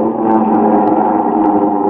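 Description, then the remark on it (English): A steady, loud droning roar of multi-engine propeller aircraft, a dense engine hum holding constant throughout with no voices. “Then comes flight time and the sound of planes, great multimotor giants.”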